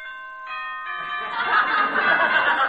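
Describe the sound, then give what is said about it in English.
A boxing ring bell clangs to start the first round, with a bright, ringing tone that sustains briefly, then fades under a swelling wash of crowd noise and laughter. “Here's the bell for the first round.”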